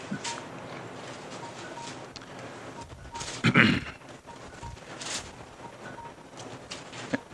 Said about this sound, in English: If it's a cell phone, please turn it off.